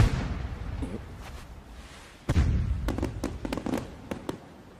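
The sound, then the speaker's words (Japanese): Fireworks go off: a low rumbling boom, then a scattered series of sharp cracks and pops over a hissy background, with no voices. “ったく、一歩花火はでけえだけで役立たずだぜ。”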